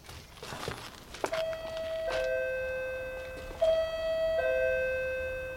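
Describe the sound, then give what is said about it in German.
A doorbell with no name on it chimes twice, each ring a clear two-note ding-dong that lingers and fades, preceded by a few soft knocks or footsteps. “Kein Name an der Klingel. Bimmel trotzdem.”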